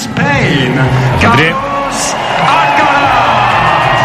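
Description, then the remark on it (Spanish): A tennis stadium crowd roars in a loud, sustained ovation for Carlos Alcaraz as he walks onto the court waving, rackets on his back, before his match against Tommy Paul, with cheers, whoops and shouted voices blending into a dense, continuous wall of applause and yelling that holds steady throughout. “Ovación para Carlitos, que ahí está saludando tranquilamente con sus raquetas a la espalda.”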